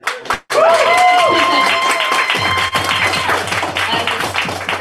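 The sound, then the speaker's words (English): An audience breaks into loud, sustained applause for a speaker who missed out on applause after his first time on the mic, with a few whoops and cheers mixed in, the dense clapping continuing steadily for several seconds without anyone speaking over it. “he missed out on that applause. So let's give it to him now.”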